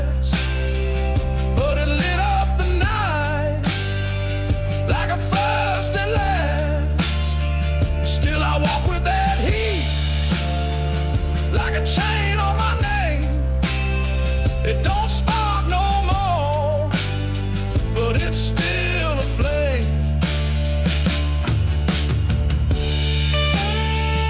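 A self-produced single from June plays loudly and continuously, with a melodic singing voice gliding over steady bass notes and sustained chords, the arrangement shifting every few seconds.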